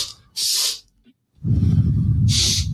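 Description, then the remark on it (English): Two quick, sharp breaths in through the nose, then a pause and a long, slow, breathy exhale that rushes out steadily for over a second. No talking. “Two sharp inhales, like, followed by a slow exhale.”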